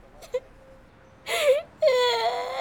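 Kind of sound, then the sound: human body sound, child crying and whimpering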